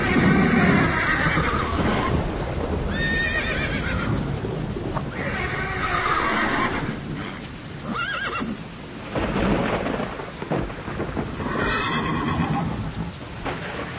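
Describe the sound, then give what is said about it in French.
Horses neigh and whinny repeatedly amid the steady clip-clop of hooves, with a constant wash of rain and wind in the background; several loud whinnies stand out. The horses are being taken out of a muddy, rain-soaked aqueduct construction site as work stops for the day. “Bon, sortez les chevaux.”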